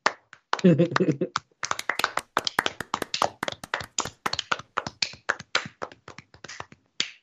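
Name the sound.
hand clapping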